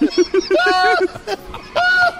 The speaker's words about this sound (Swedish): Och det är så kul att tuppa replikerar. … har samma garv som sin tupp.